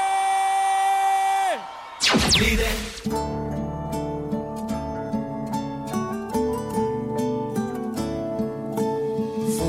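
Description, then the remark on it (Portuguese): A crowd cheers and claps in a loud burst after a held musical chord, then the applause and whoops carry on under rhythmic music that starts up again. “palmas, suas barulhas.”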